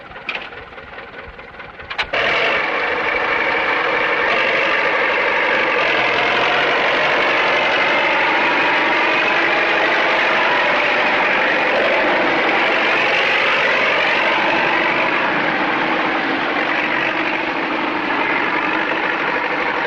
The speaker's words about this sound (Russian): Вон там идет трактор. А в нем никого нет.